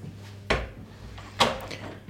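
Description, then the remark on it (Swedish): A bedroom door in an apartment is shut with two sharp wooden knocks about a second apart, like the door swinging closed and then the latch catching, against a quiet background hum. “Så, och så stänger vi in till sovrummet.”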